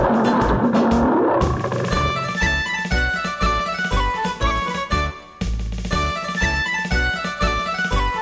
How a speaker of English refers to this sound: What is it? What is it? It's a lion.